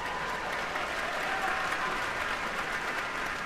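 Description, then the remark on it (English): Steady, dense applause from a large audience at the end of an orchestra concert fills a reverberant concert hall, many hands clapping continuously at an even level for the musicians' performance, with no voices standing out. “And give yourselves a big round of applause for being such wonderful listeners and explorers of music.”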